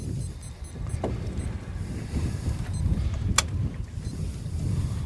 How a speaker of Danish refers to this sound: Øj, nu skal vi se, om vi kan styre båden. Nej, det... Så jeg sætter lige uret her, mens du guider båden ud her på cirka en halv times tid.